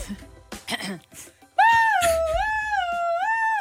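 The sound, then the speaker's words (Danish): A person imitates an ambulance siren with the voice, a loud sustained wail that sweeps up and down in pitch for a couple of seconds, preceded by brief breathy sounds. “Du ved godt, hvordan en ambulance lyder. Kan du lige lyde som en ambulance?”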